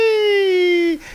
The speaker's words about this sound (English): And then they hear a scream.